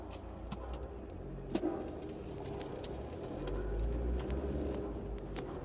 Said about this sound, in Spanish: Nos movemos en un carro que fue plateado y ahora es gris. Viajamos en un Trooper del año 85 que no tiene mucho de verde.